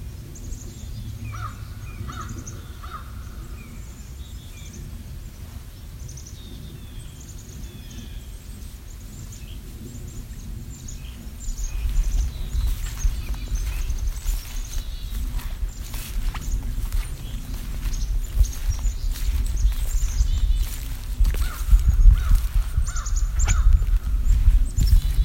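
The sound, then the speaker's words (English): A crow caws several times outdoors in spring among scattered smaller calls of a chickadee and blue jays, with steady rhythmic crunching steps growing louder during the second half. “So we're hearing a crow and a chickadee, some blue jays, you know, nothing terribly exotic, but it's bird song, and I've missed the sound.”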